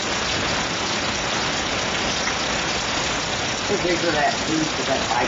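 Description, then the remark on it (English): Steady, dense rain hisses continuously at an even level, with a faint low rumble underneath and some brief murmuring voices toward the end. “And it was raining like this.”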